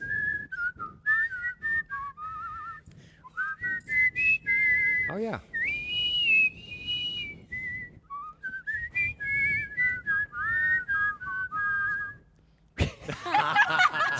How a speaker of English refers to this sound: They're both great whistlers, and I'm just like, yay. We whistle John Wayne in.